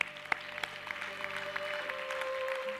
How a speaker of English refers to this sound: Why don't you clap your hands together?